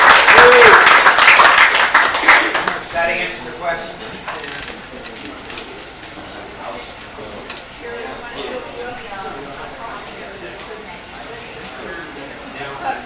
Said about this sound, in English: So for our host, let's have a solid round of applause for Good Nature and staff. Thank you, guys.